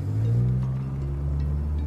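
The engine of a mother's car drones with a steady, low harmonic hum as the car drives away, holding fairly level throughout with no voices or other sounds over it.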